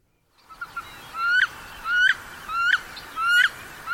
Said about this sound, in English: It's my favorite. That's a wood duck. Very good. It's a hen, right? That sounded like a hen squealing. Yeah, I think you're right on that one.